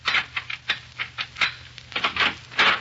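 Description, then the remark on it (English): A key fumbling into the door lock of an apartment in a Chicago apartment hotel overlooking Lake Michigan: a quick, irregular run of small metallic clicks and scrapes, about a dozen light taps over a few seconds, fairly quiet with no voices. “Presently, the cause of her ill temper inserts a key in the door.”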